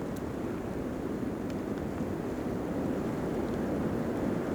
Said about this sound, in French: Il est là, balayé par le vent. Face aux cimes enneigées.